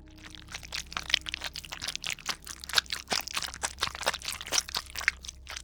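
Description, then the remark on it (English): Wet chomping and chewing, a steady run of moist crunches and squelches as someone chews flesh, coming from behind the listener, with no talking. “The sound of someone chewing flesh.”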